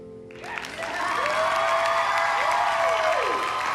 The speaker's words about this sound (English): She gazes up at the crowd. Zoe, Goldie, and the man between them grin and clap, and Maya's numb expression finally morphs into a smile.